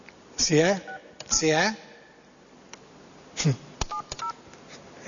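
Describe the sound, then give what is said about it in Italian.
A voice speaks briefly, then a quick run of four or five short telephone keypad tones beeps out in an uneven rhythm as another phone number is dialed. “Facciamo un altro numero.”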